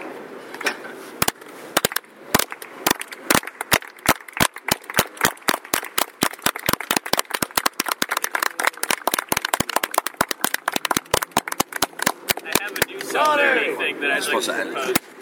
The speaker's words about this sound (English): And the solidarity clap.